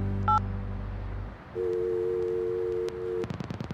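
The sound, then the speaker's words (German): A brief two-tone dialing beep over a low hum as someone places a telephone call, then a steady ringback tone sounding twice, followed by a burst of clicks and rapid pulses as the line connects. No one speaks. “willst du Freya anrufen? Wir haben doch jetzt eine Antwort.”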